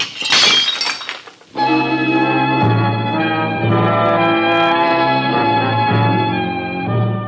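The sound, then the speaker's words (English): A dish is deliberately broken with a loud crash, a burst of clattering shards lasting about a second, followed by sustained instrumental music playing steadily. “I'm going to break another dish.”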